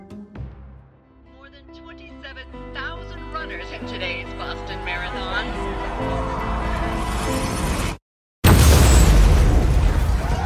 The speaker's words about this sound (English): So I gotta tell you, there was an explosion, and your legs, they're gone, bro.